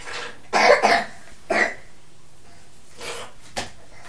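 A child tries to blow their nose: four short, breathy puffs of air, the first strongest, spaced irregularly with quiet gaps between, without talk.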